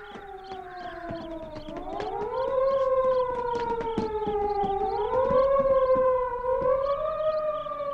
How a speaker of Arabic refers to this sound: لأتصل بصافرات الإنذار وإلا بوغتنا فجأة. ألو، صافرات الإنذار لتنطلق جميعها فورا.